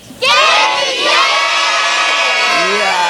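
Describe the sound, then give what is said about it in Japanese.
A large audience at an anime-fan concert public recording in the red pine forest of Ebino Kogen, hosted by the Ebino Kogen Hotel, erupts in a loud, sustained shout answering a greeting, many voices yelling together for about three seconds before trailing off. “すごいボリュームですね。こちらのね、海老の高原の赤松林にね、こだまするような感じでございましてね。”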